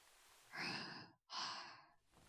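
A single breathy yawn just before sunrise: a long airy intake followed by a drawn-out sighing exhale after a brief pause, soft and unhurried with no speech.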